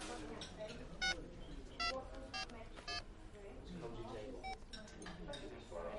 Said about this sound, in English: Why don't you phone him now on your mobile?